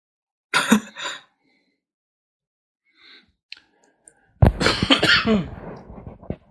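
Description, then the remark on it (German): A short cough bursts out near the start, followed by quiet shuffling and a faint click, then a louder, longer fit of harsh coughing and throat noise. “Also mit deinem unauffälligen Husten musst du dir nochmal was überlegen.”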